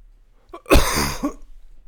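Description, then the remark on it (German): A single harsh cough run together with throat clearing, a rough burst lasting about half a second, then quiet. No one speaks. “Muss schon wieder husten.”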